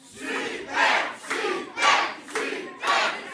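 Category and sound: crowd, audience applause and cheering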